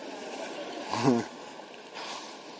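A single short lion roar, a brief rumbling growl that swells and fades within a moment, rising above a steady hiss of background noise.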